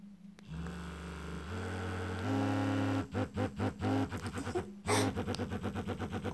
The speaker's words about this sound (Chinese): 所以呀，就给我买了一个新的震动棒。我打开给你听听啊。